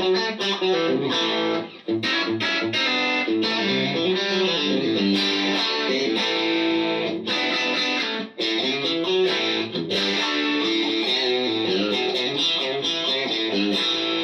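A twangy, slightly snarling electric guitar with two noise-canceling single-coil pickups plays a continuous run of bright, biting notes and chords at a steady, fairly loud level, with a few brief pauses between phrases.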